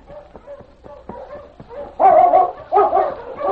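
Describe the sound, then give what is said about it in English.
A pack of sled dogs barks and yips, starting with scattered sharp yelps, then breaking into a loud, dense chorus of overlapping barks. “I'll go get that dog team and sled.”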